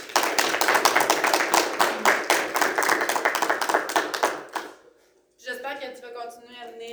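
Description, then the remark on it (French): A round of applause from a group thanking a member for his good work and support, dense steady clapping for about four and a half seconds before fading out, followed by a voice speaking. “Je pense avoir une bonne main d'applaudissements,”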